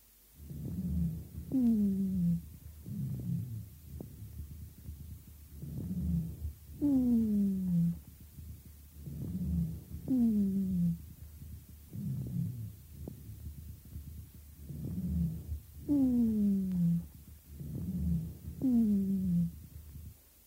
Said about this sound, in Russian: В данном случае на фоне ослабленного везикулярного дыхания вы слышали сухие басовые гудящие хрипы, возникающие преимущественно на выдохе.